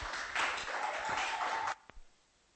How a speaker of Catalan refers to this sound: Va, que anem perdent temps entre aplaudiment i aplaudiment.